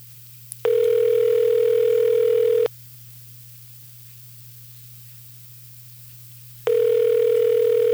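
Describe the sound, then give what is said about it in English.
A steady telephone ringback tone of an outgoing call placed during a radio broadcast sounds in long two-second bursts separated by about four seconds of quiet, over a faint constant hum, like a call waiting to be answered. “The sound of ringing over your radio.”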